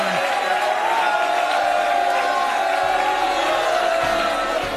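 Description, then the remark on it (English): A large audience at a presidential debate boos Donald Trump loudly and steadily, a dense, continuous roar of many voices that holds at the same level for several seconds without a break. “Trump, we're not going to eject anyone from the audience just for booing you.”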